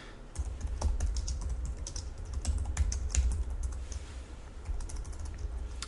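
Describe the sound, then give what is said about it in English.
Steady typing of code on a computer keyboard, a quick irregular run of light clicking keystrokes over a low background hum, with no one speaking. “Okay, so type it exactly the way that I type it.”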